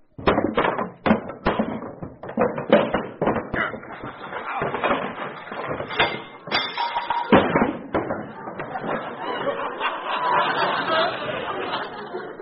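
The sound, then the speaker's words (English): Clattering and thumping as heavy junk piled against an apartment door is dragged and shoved away from it, with irregular bangs and scrapes building into a continuous jumble of moving clutter. “what's the idea of piling all that junk in front of your door?”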